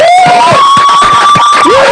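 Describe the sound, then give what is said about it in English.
A small group claps and cheers loudly for a guest pursuing a PhD, with a sustained high whoop or whistle riding over scattered claps for about two seconds. “Say it again so you can hear us clapping.”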